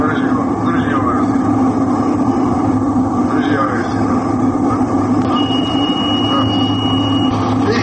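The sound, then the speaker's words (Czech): Steady engine drone fills an aircraft cockpit, with a thin, high electronic warning tone sounding for about two seconds near the end over the constant rumble; a black box recording from a plane descending early with autopilot off, which crashed near Mostar in 2004. “isključio autopilot, nije održavao horizontalan let i ranije krenuo u snižavanje visine, čemu svjedoče i tonovi iz crne kutije.”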